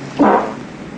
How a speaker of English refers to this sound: Do ghosts fart? Yes. They can snore, they can fart.